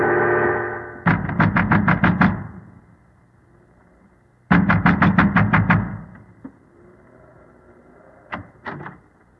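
Two loud bursts of rapid, heavy pounding on the wooden door of a windmill by a man wrapped in an oilskin and wearing gigantic boots, each about six quick blows, followed later by a couple of softer knocks. The banging is forceful with no talking.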